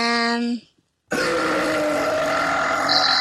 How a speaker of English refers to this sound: That was you. That was you. It was you. Oh, you just farted. No, you.